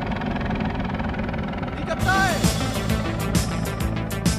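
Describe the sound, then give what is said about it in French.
A steady, throbbing mechanical rumble like a helicopter passing overhead, holding a low pulsing drone, with brighter bursts of noise and a falling whine cutting in partway through. “Oh! C'est un hélicoptère!”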